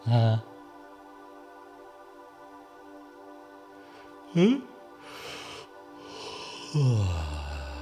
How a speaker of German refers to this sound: Mach mal so ein Löwenmaul. Das heißt, den Mund mal so ganz groß aufmachen, so. Genau. Sodass du ganz gemütlich gähnen kannst. Und wir machen das einfach nochmal. Einfach nochmal so ein Löwenmaul machen.